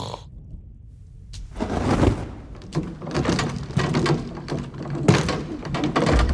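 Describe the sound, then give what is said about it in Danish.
A low rumble builds into a dense, grinding mechanical clatter of gears turning as a door mechanism opens when a torch is lit, loud with scattered sharp clunks throughout. “Og i det samme, da ilden bliver tændt, så siger det duk. Nogle tandhjul, der går rundt.”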